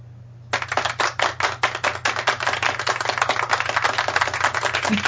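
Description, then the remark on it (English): Light, thin hand clapping starts after a brief pause and continues at a steady, unhurried pace, fairly soft, over a faint low hum. “Like an old lady clapping, I'm sorry.”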